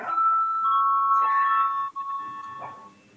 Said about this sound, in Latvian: Lūdzu zvanu.